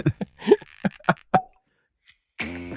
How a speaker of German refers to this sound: So, es sprudelt im Glas. Er ist sehr trüb.